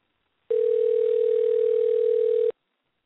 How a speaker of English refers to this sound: And we're dialing. Dun, dun, dun, dun, dun. All right. And it's ringing.